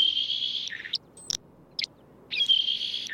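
A saltmarsh sparrow sings two high, wheezy buzzes separated by a few short, sharp chips, with a soft hiss of background in between and no voices.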